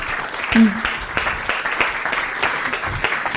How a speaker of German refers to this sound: Danke für den kurzen Impuls und die Intervention. Kleiner Applaus auch für dich.